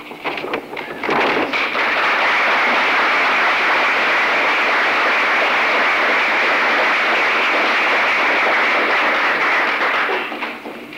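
A crowd bursts into applause, a few scattered claps quickly swelling into a dense, steady roar of clapping that holds for about ten seconds before tapering slightly at the end.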